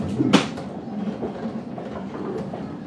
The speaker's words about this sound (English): For safety, please keep the doors closed until the train has come to a complete stop on the platform, and please mind the gap as you leave the train.